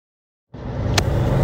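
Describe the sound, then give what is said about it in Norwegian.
Steady low rumble inside a moving Team Uno-X car during the first stage of the Volta a Catalunya cycling race, fading in after a short silence and holding at a constant level, with one brief sharp click partway through. “Nå sitter jeg, Thor, på siden av Ole Gabriel Rask I bilen her”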